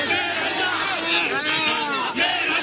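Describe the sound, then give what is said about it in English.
A large crowd of supporters cheers continuously as President Mahinda Rajapaksa steps off his aircraft on his return from Jordan, hailing him as a national hero. It is a dense roar of many voices with overlapping shouts and whoops rising and falling, loud and sustained throughout, with no single voice standing out. “President Mahinda Rajapaksa stepped off his aircraft on his return from Jordan to the cheers of supporters who hailed him as a national hero.”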